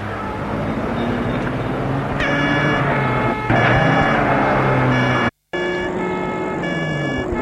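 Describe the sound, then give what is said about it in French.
A car drives through Paris at night, its engine rumble and road noise continuous and fairly loud, with whining tonal sounds rising over it and a brief dropout near the end. “Et une fois dehors, ils prennent une voiture.”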